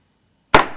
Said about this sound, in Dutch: De hamerslag voor de opening van de raadsvergadering 2 juli 2020.